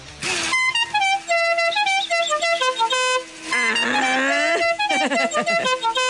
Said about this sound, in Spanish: Muy lambadoso el claxon, me gustó.